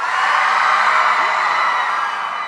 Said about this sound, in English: You spotted what I've spotted, DC, there. Yeah, that was interesting. There was definitely a bigger cheer for Oscar, so...